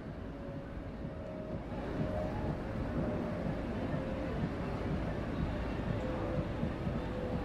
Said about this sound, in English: Yeah. Now this sounds like a boat. Hang on a second.